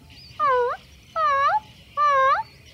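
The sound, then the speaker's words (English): A person imitates a puppy's soft whimper with three short, high, whiny cries, evenly spaced about a second apart, each slightly wavering in pitch, clear with no talking. “Why don't you also try whimpering softly, like a little puppy does?”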